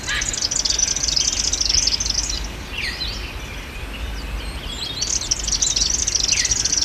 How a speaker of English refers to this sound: I've had a bit of a listen to the recording you sent me from Walleye Creek. And there's a lot going on there. There's a lot of birds. But the ones I could pick out were variegated fairy wren,